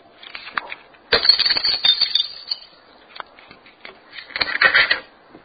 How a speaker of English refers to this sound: But he had knocked the jar of oil off the shelf. The jar was smashed to bits.